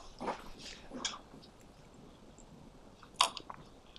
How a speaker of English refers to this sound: Sorry, just a drink of water.